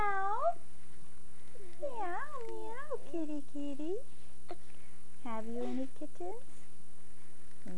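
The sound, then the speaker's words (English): A female pet cat meows repeatedly while being softly petted, several drawn-out, wavering cries in bursts with short pauses between them, over a low steady hum. “Oh, don't fall on the kitty. She won't like that.”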